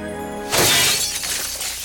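A cathedral window's glass shatters loudly as a dragon punches it out in Shrek, a bright crash followed by a second of tinkling shards scattering and settling, with a faint sustained tone underneath before the impact.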